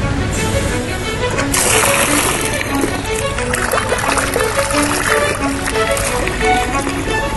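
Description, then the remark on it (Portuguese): Water pours steadily from a city fountain in Austria's capital, fed by clean water coming down from the Alps; a continuous splashing rush that stays loud and even for the whole stretch, with no pauses or change in flow. “A água abastece 900 fontes da cidade e também chega às torneiras de todas as casas.”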